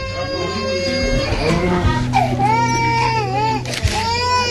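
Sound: newborn baby crying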